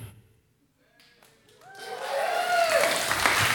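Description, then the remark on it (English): Audience applause swells in after a brief near-silence, building into a dense, sustained wash of clapping from a crowd, with a few voices or cheers rising through it. “Round of applause, everybody. Keep it coming.”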